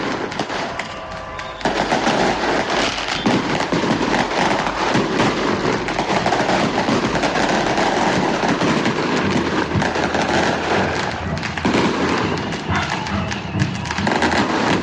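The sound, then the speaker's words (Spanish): A steady barrage of fireworks set off over the last hours in view of the police bursts and crackles continuously, loud dense pops and thuds overlapping with hardly a pause, some faint background voices and dogs barking mixed in. “Esos son los fuegos artificiales que se han dado durante las últimas horas a vista y paciencia de la policía.”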